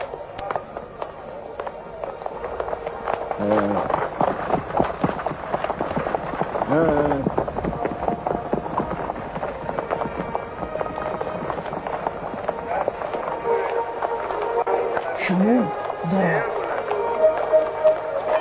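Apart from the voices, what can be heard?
horse hooves clip-clopping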